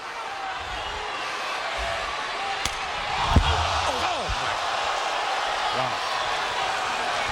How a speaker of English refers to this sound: And now that's a slap in your face.